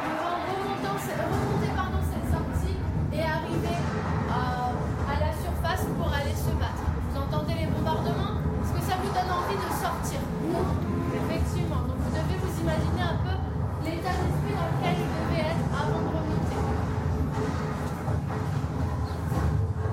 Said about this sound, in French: j'ai 9 ans et on est dans le bus et là on va à la Dame de Lorette pour découvrir encore des choses.